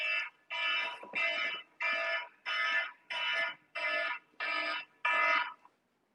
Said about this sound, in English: okay, this is one of the alarms that I have to interrupt. So excuse me.